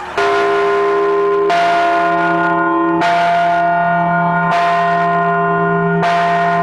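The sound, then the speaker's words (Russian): A loud church bell, newly blessed by Metropolitan Mercury at the parish of Saint Alexander Nevsky, whose church is under construction, rings alone in steady strikes about every second and a half, five in all, each tone ringing on into the next, with the pitch shifting slightly between strokes. “Здесь владыка Меркурий осветил не только праздничные угощения, но и колокол.”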